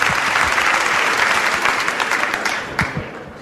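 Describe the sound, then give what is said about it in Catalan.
An audience applauds to warm up before a performer plays Silent Night on the flute: dense overlapping claps that hold strong for a few seconds before beginning to thin and fade toward the end. “Molt bé, doncs un aplaudiment ja per escalfar motors.”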